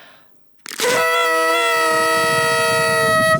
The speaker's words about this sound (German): Und darf ich noch einmal in die Tröte blasen? Ja, und komm, wir blasen nochmal gemeinsam. Zusammen.